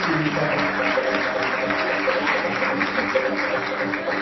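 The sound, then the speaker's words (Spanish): A crowd applauds steadily and loudly for about four seconds, a dense, even wash of clapping with faint voices or cheers mixed underneath, for the designers of the Textile Design Laboratory as they receive their diplomas. “Y un caluroso aplauso para cada una de ellas que han presentado su dirección en esta edición de Diseño Textil.”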